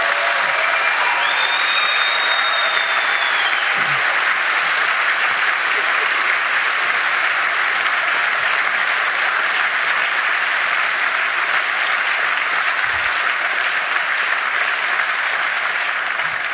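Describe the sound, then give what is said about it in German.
Dense, steady applause from a crowd for the demonstrators in Copenhagen, many hands clapping in an even wash of sound that holds at the same loudness for about sixteen seconds without fading. “Ja, also es ist halt, die verdienen echt einen Applaus.”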